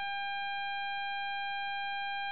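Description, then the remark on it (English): A loud, unbroken electronic beep on a phone line, holding one steady high pitch with a buzzy edge for about two seconds, with no voices. “I'm hearing like a big beep from your.”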